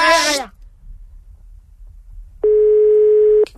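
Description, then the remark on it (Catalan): A short bleating, quivering sound opens, then a pause before one steady telephone ringing tone of an outgoing call sounds for about a second, loud and clear, with no talking over it. “Truquen!”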